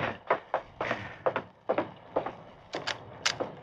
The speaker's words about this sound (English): It was not until 2 hours later that he woke with a start. What? Someone was pounding on the door of the stable. It's midnight. How can that be?